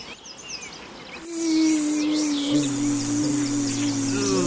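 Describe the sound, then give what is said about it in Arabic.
Bees buzz in a loud, steady drone that starts about a second in and continues without a break, layered over bright bird chirps in the background. “يا نحلة، يزعجني صوتكم جميعا، اذهبي من هنا، اذهبي أنت وصغارك بعيدا عني.”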